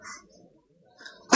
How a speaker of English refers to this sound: Oh, bless you. Bless you.